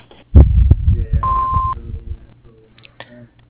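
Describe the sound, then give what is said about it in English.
A single steady electronic answering machine beep lasts about half a second, surrounded by low muffled thumping and rumbling noise, like a phone line picking up. “You may leave a message at the sound of the beep, and we will return your call as soon as possible.”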